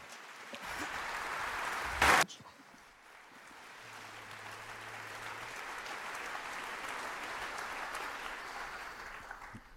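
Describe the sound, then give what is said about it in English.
A large audience applauds the speakers steadily, a dense wash of many hands clapping that holds for the whole stretch, with one sharp loud burst early on before the clapping settles into an even roar. “I kindly ask all of you here in so large numbers to kindly applaud for our speakers.”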